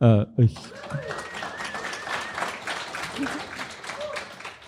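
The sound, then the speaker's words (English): A short burst of voice opens, then an audience breaks into steady, dense applause for the Canadian philosopher Charles Taylor, carrying on for several seconds at an even level, with faint voices mixed into the clapping. “Who gives a round of applause for philosophers.”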